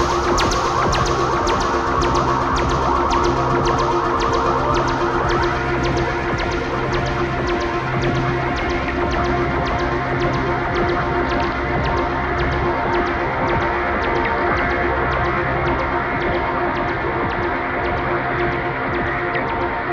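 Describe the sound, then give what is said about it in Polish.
A steady, dense electronic drone of polar aurora radio emissions, produced by the solar wind interacting with Earth's magnetosphere and turned into sound without changing frequency, thick with layered hum and a fine, regular throbbing pulse throughout, fairly loud and without any voices. “i wiatr słoneczny, który oddziałuje z atmosferą ziemską, a właściwie z magnetosferą ziemską, generuje fale radiowe, które możemy bardzo łatwo bez zmiany częstotliwości przełożyć na fale dźwiękowe i wtedy już słyszymy kosmiczne radyjko, zorza polarna.”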